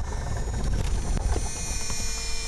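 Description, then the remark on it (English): A steady mechanical whine of aircraft gyroscopic instruments spinning down after a flight, once the plane has landed, taxied and been shut down, with thin high tones over a low rumbling hum, fairly loud, no voices. “I realize my favorite, most fascinating sound is that of aviation gyros spinning down after a flight.”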